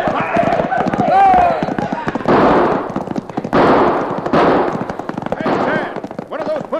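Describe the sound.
Rapid volleys of gunfire from a posse's shootout with cattle rustlers, with dense, overlapping cracks that come in loud bursts of several seconds while voices shout in between and underneath.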